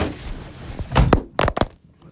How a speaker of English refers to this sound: And your phone fell.